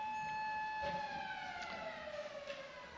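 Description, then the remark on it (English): A fire alarm siren wails continuously, its steady tone slowly sliding lower in pitch, over a faint background rumble with no one speaking. “This is our fire alarm, testing or real.”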